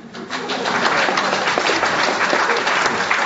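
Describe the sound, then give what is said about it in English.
An audience at a science communication event claps together in a dense, steady burst of quick applause that starts almost at once and holds at an even, fairly loud level for about three seconds, with no voices heard. “So now, before we get started, I want a quick applause for those of you who have found yourself challenged to explain a complex science topic.”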